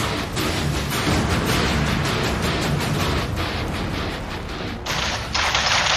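gunfire

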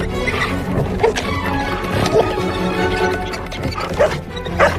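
dog

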